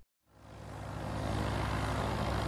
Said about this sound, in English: Please tell the pilot not to make this plane any bumpier. If I have to go up there myself, I will. Wait a minute. I wouldn't be able to walk with all this turbulence.